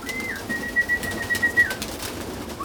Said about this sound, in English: I'm standing at the entrance of what looks like a small white house on stilts. It's a pigeon loft. There's a ladder, a door, and a whole lot of cooing.